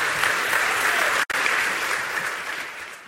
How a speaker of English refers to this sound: Seats, and I think you should give them a round of applause.